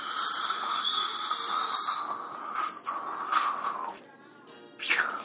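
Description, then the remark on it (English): A dental water rinse sprays a little water into a patient's mouth in a steady, airy hiss with a thin high whine running through it. It cuts out for a moment near the end, then bursts back on. “Okay, let's give her a little bit of rinse.”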